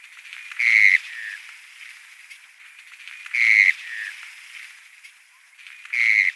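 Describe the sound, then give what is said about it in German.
A wader (limicoline shorebird) with orange breeding plumage and a pale eyebrow stripe calls three times at steady intervals: a bright, high whistled note with a short trailing slur, sounding clearly over a faint, continuous hiss of background noise. “Sie gehören zu den Limicolen. Sehr niedliche Art. Hat so ein orangenes Prachtkleid, einen hellen Überaugenstreif.”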